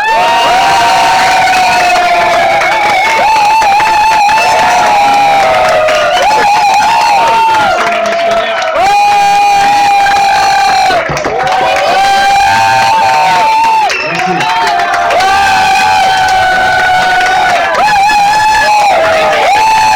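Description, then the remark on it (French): A large audience at a goguette singing event cheers and shouts loudly and continuously, applauding twice as loud for a first-time singer, a dense roar of voices with rising whoops and yells that keeps going without a break. “La personne qui chante pour la première fois une Gouguette, on l'applaudit deux fois plus fort, mesdames, messieurs, et on va applaudir deux fois plus fort”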